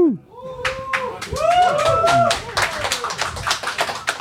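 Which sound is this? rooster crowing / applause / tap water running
applause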